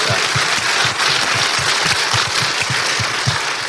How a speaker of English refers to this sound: So if we can we give him a round of applause for that?